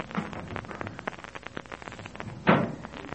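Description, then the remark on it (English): A door thuds shut with a single solid knock near the end, preceded by a stretch of faint rattling and shuffling handling noise. “Right out that door there.”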